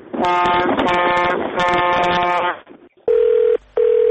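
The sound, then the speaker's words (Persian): A semi-trailer truck's horn, sounded by its driver, blares three times in quick succession, loud and brassy, the first blast shortest. After a brief pause come two steady, flat electronic beeps. “من یه راننده تریلی هستم، به افتخار تو 3 بوق میزنم.”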